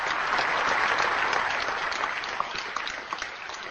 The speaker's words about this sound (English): A huge applause broke out when the coffin of the policeman, draped in the Italian flag, was brought into the church.